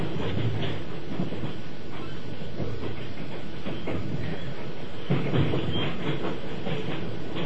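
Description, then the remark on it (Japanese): A passenger train with no dining car in service rolls along the rails with a steady, loud rumble and rhythmic clatter of wheels, heard continuously, with no talking. “この列車には食堂車は使えておりません。”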